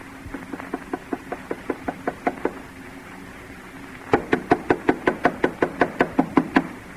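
A soft, steady series of knuckle knocks on the door of a house, about a dozen quick raps, then a pause and a louder, firmer round of knocking at a similar even rhythm. No voices.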